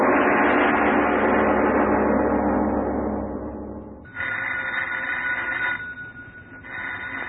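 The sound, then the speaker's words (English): A loud swell of sound fades out, then an old telephone bell rings insistently: a long ring, a short pause, and another ring starting. The ring is clear, with no talking. “answer the phone, please.”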